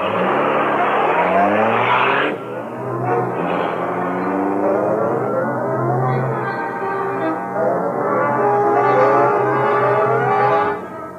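The Black Beauty, the Green Hornet's high-speed car, roars and accelerates, its engine pitch climbing through rising gear sweeps with a brief break, then keeps surging steadily and loudly as it speeds away. No one speaks.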